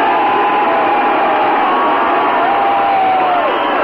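A huge outdoor crowd on Chicago's lakefront, almost as big as the 4th of July fireworks crowd, roars and cheers continuously after a countdown in cold weather, a dense wash of whoops and shouts from many voices blending into one loud, sustained wall of celebration.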